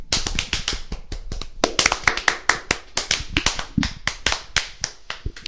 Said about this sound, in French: Et une salve d'applaudissements.